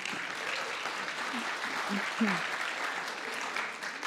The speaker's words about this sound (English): Let's applaud for that.